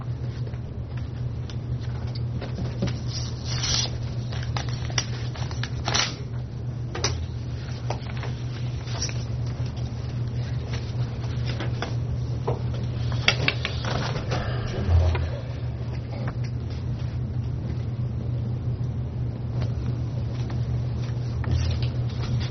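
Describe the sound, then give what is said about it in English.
Bid envelopes for the lease purchase of a hydraulic trailer are torn open and paper is handled: scattered rustles, crinkles and soft clicks come and go over a steady low hum, with no one speaking. “open work bids for the lease purchase of the hydraulic trailer.”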